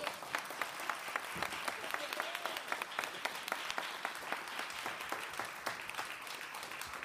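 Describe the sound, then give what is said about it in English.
An audience claps steadily throughout, dense overlapping hand claps forming a continuous round of applause with some sharper individual claps standing out. “Let's clap, y'all.”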